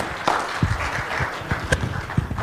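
A short burst of hand claps, several sharp, loosely timed smacks spread over a couple of seconds, with no talking.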